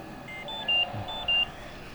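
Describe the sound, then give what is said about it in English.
A home ventilator alarm beeps twice in a steady pattern, each pair of high electronic tones sounding clear over a low background hum, set off at night when the patient crimps her ventilator tube with her leg. “or crimps her ventilator tube with her leg and sets off an alarm”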